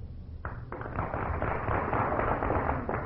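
An audience breaks into applause after a brief moment of quiet, voting by applause for the contestant who best described how handsome her husband is, a dense, steady clatter of many hands clapping that holds at an even level to the end.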